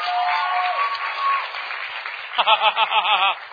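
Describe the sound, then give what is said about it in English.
A crowd claps in sustained, dense applause, giving God a hand clap, then a raised voice calls out over the clapping near the end. “Come on, give God a hand clap.”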